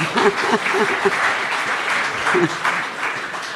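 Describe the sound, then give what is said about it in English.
An audience applauds Barry Jones, Australian former politician, with steady, dense clapping that holds at an even level throughout, with a few voices calling out briefly near the start and again partway through. “Yeah, give him a clap.”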